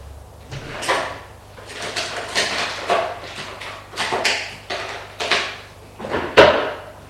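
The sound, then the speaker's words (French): Drawers in a lawyer's office sliding open and shut over and over as intruders search it, a series of scraping, rattling movements with a sharp knock near the end, no voices. “Les tiroirs, les dossiers.”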